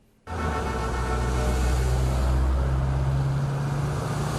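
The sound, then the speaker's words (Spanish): Steady, loud rumble of more than 200 classic and vintage car engines that starts abruptly and keeps going, a dense low-pitched drone of vehicles idling and moving together along the Malecón seaside avenue in Havana, Cuba, during a classic car competition, with no voices. “Más de 200 coches clásicos y antiguos tomaron la famosa avenida del Malecón de La Habana en una colorida competencia que mostró el patrimonio automovilístico de la isla.”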